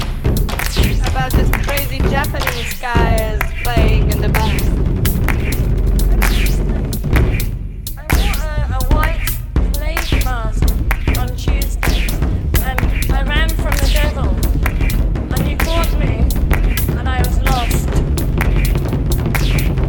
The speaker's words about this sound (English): massive drum fills that bang and rattle over the minimal techno backdrop.